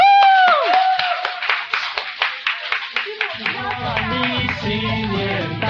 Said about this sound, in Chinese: 我们拍手，为我们的主拍手好不好？